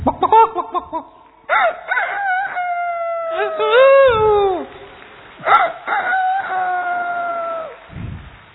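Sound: imitated rooster crowing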